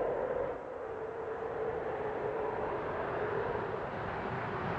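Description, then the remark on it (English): Space Shuttle Atlantis touching down on the runway at Cape Canaveral for its final landing, on July 21, ending the 30-year shuttle program, in nearly perfect weather: a steady, loud, wide roar with deep rumbling and a faint whine running through it, holding even for several seconds with no voices. “The sound of the space shuttle touching down, narrated by NASA commentator Rob Navias.”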